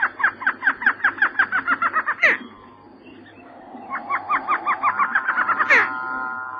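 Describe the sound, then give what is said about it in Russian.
A white-faced whistling duck in the Amazon forest at night gives rapid runs of clear, rising whistles in two bursts, each ending in a sharper, higher note, fairly loud over a quiet background. “А белолобая древесная утка как будто смеется над страхами обезьян.”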